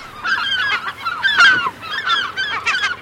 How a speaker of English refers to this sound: If you've ever stood on a Seattle wharf outside a fish and chips restaurant and flung a French fry into the air, you've heard this call. It's Puget Sound's most common gull, the glaucous-winged gull.